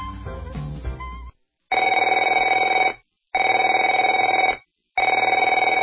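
A telephone rings three times in steady, evenly spaced bursts, each a loud, bright trilling ring with short silences between. Brief music plays before the first ring.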